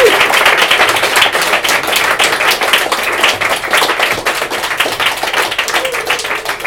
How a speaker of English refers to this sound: Okay, so please give a big round of applause